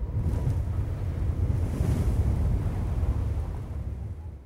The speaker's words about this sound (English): In the mountains, it's windy today.